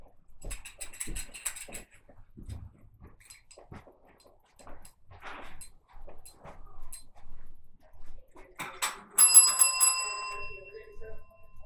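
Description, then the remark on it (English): A doorbell rings near the end, its bright tones hanging and fading out over a couple of seconds. Before it come scattered clatter and people talking quietly. “Ding dong!”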